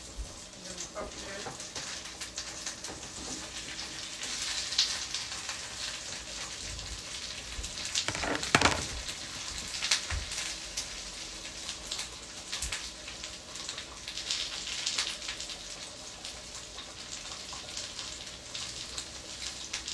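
A pot of water boils steadily on a stove, a dense, continuous bubbling and hissing, with a brief louder burst of bubbling partway through.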